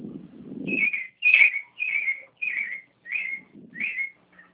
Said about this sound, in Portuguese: Tem pássaros aí? É. Tô vendo. É uma sabiá. Tem muitos pássaros essa sabiá aí? Só essa sabiá. E os periquitos.